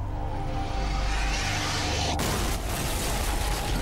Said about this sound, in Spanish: Una gran explosión sacude la oficina del FBI.